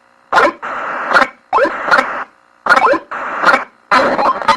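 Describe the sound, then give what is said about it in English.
A retro video game death sound effect from the game Deadly Duck, played when you die: loud, buzzy electronic squawks in short paired bursts, repeating about three or four times with brief gaps, and no one talking. “That's what it does when you die, which is, I think, is a cute noise.”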